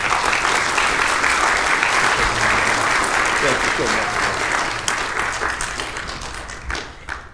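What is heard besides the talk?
audience applauding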